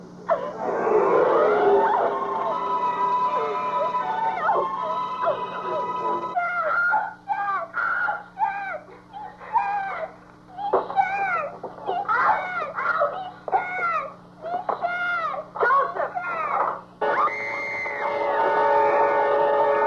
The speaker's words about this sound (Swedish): Två av skjortfigurerna håller små mistlurar som de då och då blåser i långa klagande tutningar.